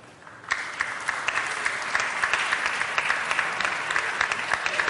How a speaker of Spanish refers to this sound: Y ahora, pues seguro que vimos esto. Otra ronda de aplausos. Facultad de Ciencias Sociales y Jurídicas, titulados y tituladas de Investigación y Técnica de Mercado y Estadística.